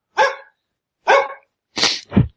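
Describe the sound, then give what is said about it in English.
Bill's dog, Webster, barks four times: two single, spaced-out woofs, then a quick double bark at the end. No one speaks. “Bill's dog, Webster! Sorry.”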